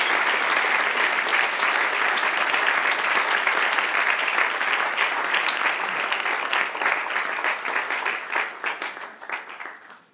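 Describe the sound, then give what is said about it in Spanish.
An audience applauds God, the one who lives and reigns forever: many hands clapping in a dense, continuous roar that holds strong for several seconds, then gradually thins and fades toward the end. “Dele otro aplauso al que vive y reina por los siglos.”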